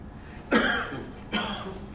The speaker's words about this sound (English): Inside this first silence that we shared was suddenly a cough. A quiet cough, but a cough that revealed a large, rumbling voice.